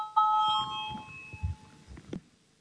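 parliament chamber bell

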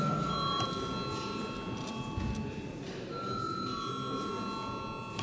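parliament chamber bell ringing

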